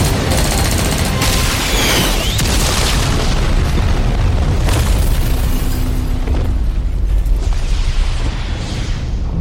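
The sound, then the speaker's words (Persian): Dense, continuous battle noise: rapid bursts of gunfire layered with heavy booming explosions as fighters are ordered to take cover and fire, loud throughout, with no pause in the chaotic roar. “با جنبین پناه بگیرین. شلیک کنین.”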